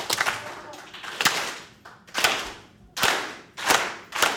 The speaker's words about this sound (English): We're going to clap real slow at first and then get faster and faster. Ready? Real slow at first.